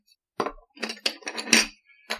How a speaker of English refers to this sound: Now we're doing the doors here, which are obviously hard plastic, as you can tell by the noise.